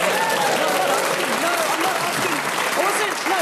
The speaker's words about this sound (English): It feels weird. It feels like every time you're announcing the score, there should be like a round of applause, and it's just like...